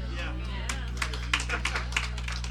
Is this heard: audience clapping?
yes